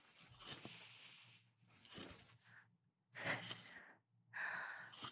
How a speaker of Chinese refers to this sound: 我用这把冰凉的剪刀，顺着你的领口，一点点地剪开你的高定衬衫。不用躲，剪刀不会伤到你的。